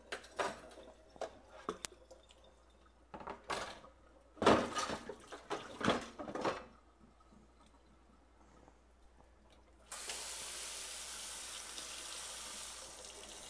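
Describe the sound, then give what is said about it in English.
Clinks and knocks of dishes being washed in a sink come in bursts, then a faucet turns on and runs in a steady, broad hiss of water for the last few seconds. “You know, I'm going to have to teach you how to do dishes because I really don't like them.”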